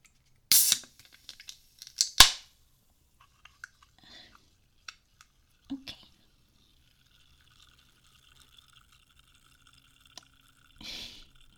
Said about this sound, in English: I'm about to open a can, so don't do what I did with the toast and like yelp, okay? Like you're fine. It's just a can opening. It's not gonna hurt you.